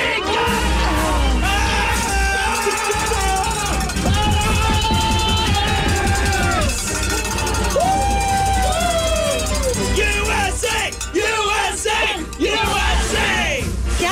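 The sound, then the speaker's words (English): A man, hunched over at the waist in a corner by himself, screams and yells "USA" into the ground at the top of his voice, loud, over a noisy, cheering crowd that keeps shouting throughout. “He was hunched over at the waist and just screaming USA into the ground.”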